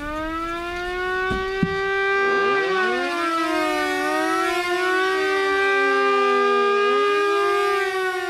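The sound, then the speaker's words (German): A loud air raid siren, one of many mounted on rooftops, wails continuously, its layered tones sliding up and down in slow, overlapping sweeps for several seconds, with no voices present. “Das Geräusch, wenn die Sirenen gingen, das war ja dann immer am Anfang Vorwarnung, Nachwarnung und auf, ab und so.”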